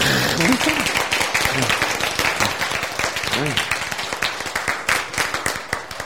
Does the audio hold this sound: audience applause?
yes